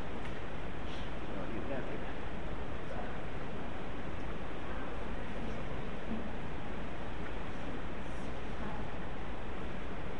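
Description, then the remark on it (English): Leaves are swished and stirred around in a container of water with bubbly vegetable wash, giving a continuous sloshing and rustling noise that runs steadily without pause. “So we're going to now put some of these in. Not going to put the whole thing in because we don't have enough water. Okay? Agitate.”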